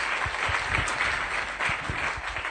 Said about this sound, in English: It's been so extraordinary that it's actually been record-breaking in the last 20 years at Bhaktivedanta Manor, actually, which is, you deserve a round of applause yourself.